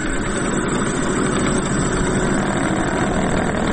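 A decades-old metal lathe in Doboj, used to make unique rings and spinning tops, runs steadily, its loud mechanical hum and rattling drone holding an even level throughout with no pauses and no voices.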